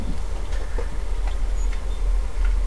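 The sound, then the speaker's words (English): A static motor spins freely on its bearings after one flick of a finger, with a steady low whir, broken by faint, irregular ticks every half second or so as it turns. No one speaks. “That's my static motor spinning. That's how free spinning it is.”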